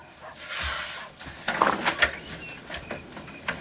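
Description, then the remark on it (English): A woman opens her door to a visitor: a soft rushing swing, then a cluster of sharp latch and handle clicks, followed by quieter rattles as it settles. No one speaks. “Suzanne opens her door to Lydia.”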